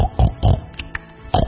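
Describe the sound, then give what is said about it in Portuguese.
A pig oinks three times in short, gruff grunts, two close together and a third after a brief pause, with quieter snuffling between them, loud. “Eu é que não, disse o porco.”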